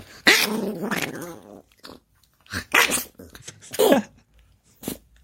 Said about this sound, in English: Eddie, we have to get up. Sorry, poor bud. Dog.